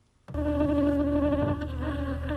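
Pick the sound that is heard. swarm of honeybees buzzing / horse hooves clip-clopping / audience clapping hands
swarm of honeybees buzzing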